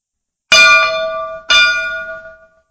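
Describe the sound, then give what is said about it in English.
A gong is struck twice, about a second apart, each hit ringing out loud and shimmering with metallic overtones before fading away. No voices are heard. “If I speak with the tongues of men and of angels, but do not have love, I become a noisy gong or a clanging cymbal.”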